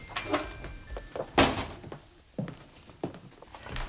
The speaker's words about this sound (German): Er wollte trotzdem klingeln, als er bemerkte, dass die Tür nur angelehnt war. Vorsichtig stieß er sie auf.